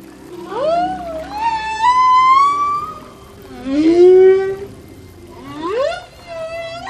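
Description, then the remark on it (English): Humpback whale song in the waters off Ireland's western seaboard: three long, gliding moans that swoop upward and sustain with rich harmonics, rising and fading in slow waves, each separated by brief pauses, loud with no talking. “From silent jellyfish to the songs of the humpback whale.”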